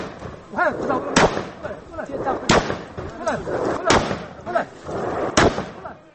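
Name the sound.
several gunshots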